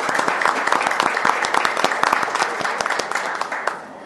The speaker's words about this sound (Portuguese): Então, a gente às vezes critica, né, esse presidente daqui e dali, mas o presidente Renan merece uma salva de palmas.